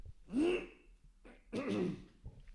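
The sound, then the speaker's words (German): A man clears his throat twice because his voice feels husky, two rough, guttural bursts about a second apart, fairly loud, with a brief pause and a small trailing rasp at the end. “Ich räusper mich einmal.”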